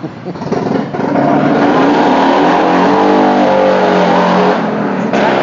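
A car engine revs loudly on Petrie Terrace outside the Masala Art restaurant, its roar building after the first second and holding steady, rising in pitch like an acceleration along a street.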